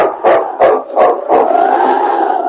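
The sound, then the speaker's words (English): Sled dogs pulling a sled in the snow bark four times in a quick, even rhythm, loud, then a sustained howling cry carries on without a break. No one speaks. “The men had traveled less than half a mile with the dead weight of the professor when they were met by men from the settlement with dogs and a sled.”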